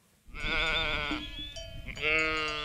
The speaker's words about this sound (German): treibt die rund 250 Schafe seiner Herde gerade ein paar Meter weiter, weg von der kleinen Straße, die an der Wiese vorbeiführt.